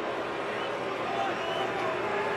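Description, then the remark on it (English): A ballpark crowd boos umpire Mike Malinsky's call on a 2-2 pitch that just missed off the plate, a loud, sustained roar of many voices that holds steady without a break for the whole stretch. “And the crowd is letting Mike Malinsky hear about it.”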